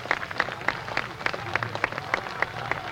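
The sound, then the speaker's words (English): Steady applause from a crowd as part of the crowd stands up, with individual claps popping out in a quick, uneven rhythm over a dense wash of clapping at moderate loudness, no voices on top. “Part of the crowd stands up on that one.”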